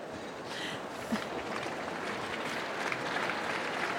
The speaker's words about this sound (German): Uiuiui, tosender Applaus.